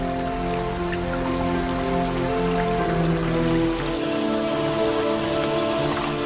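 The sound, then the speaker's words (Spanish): Torrential rain pours down in a dense patter of drops, flooding the reddish ground of the Australian desert, with a low sustained drone underneath that drops away about two-thirds of the way through. “Imagen de la lluvia inundando el suelo rojizo del desierto de Australia.”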